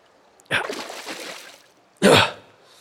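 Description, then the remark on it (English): Splashing in shallow, oily water about an inch or two deep inside a concrete pipe as someone crawls through on hands and knees: a burst of sloshing that trails off over about a second, then a second, sharper splash, with hollow, enclosed-sounding movement and no talking. “It's only about an inch or two deep, but it's getting to me.”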